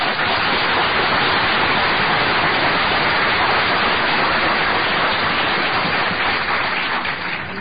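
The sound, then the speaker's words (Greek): Sustained applause from an audience for a member being introduced, a dense, steady wash of many hands clapping at an even loudness for several seconds, with no voices on top. “Χειροκροτήσατε τον.”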